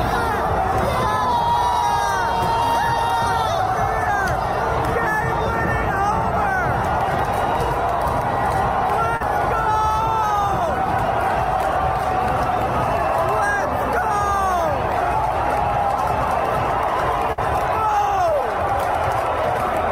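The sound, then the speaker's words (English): A large stadium crowd roars and cheers without pause for twenty seconds, chanting "beer", many voices overlapping into a loud, dense wall of sound, with individual shouts rising above the din. “Crowd starts cheering beer.”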